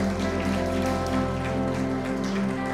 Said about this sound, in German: Danke, liebe Band, richtig cool. Danke euch. Habt ihr einen Applaus für die Band auch? Die haben einen guten Job gemacht.